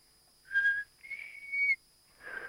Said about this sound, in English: Oh, shucks, I never could whistle.